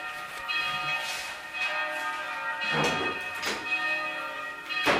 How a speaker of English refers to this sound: They say that every time you say something that's true, the cherubs in heaven are ringing bells. I can almost hear them in the background.